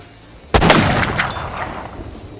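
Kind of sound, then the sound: sound effect, gunshots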